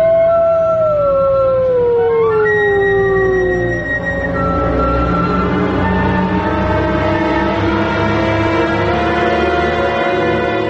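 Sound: wolf pack howling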